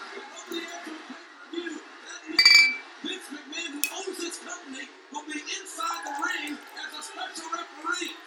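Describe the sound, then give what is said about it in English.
A bright glass clink rings out once, followed by vodka being poured into a glass, with murmuring voices continuing underneath throughout. “Pouring myself some more vodka if we're gonna have another Vince McMahon segment.”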